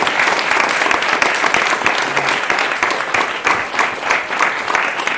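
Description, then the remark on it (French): An audience claps steadily for several seconds, a dense, even wash of many hands with quick sharp individual claps scattered throughout, loud and sustained without pause. “Vous pouvez applaudir.”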